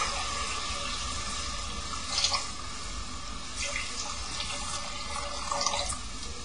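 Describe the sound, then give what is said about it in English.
Filtered water pours steadily into a pot, a continuous rushing splash with faint clinks of the container now and then, fairly quiet, with no one speaking. “Okay, now you put some water. This is a filtered water, it's not mineral water.”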